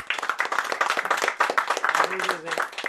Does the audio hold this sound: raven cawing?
no